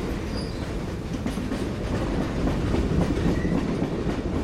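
A train travelling to Borlänge, Sweden, rolls along the rails with a steady low rumble and faint rhythmic clatter, heard by a passenger sitting inside the train, continuous and fairly loud with no voices.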